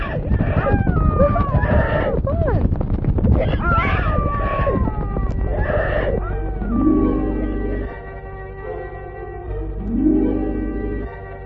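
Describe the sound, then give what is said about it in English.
Eagles squawk and screech in a loud, overlapping chorus for about six seconds, then the calls die away, leaving a low steady hum with a few faint swells. “Quiet now, you birds, while we all get on your backs.”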